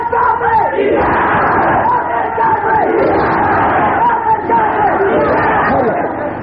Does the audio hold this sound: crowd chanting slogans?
yes